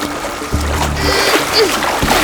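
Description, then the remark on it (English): An inflatable Zodiac boat is dropped into the water, smacking in with a loud splash, followed by churning and sloshing, then a second splashing burst near the end. “Drop the Zodiac in the water!”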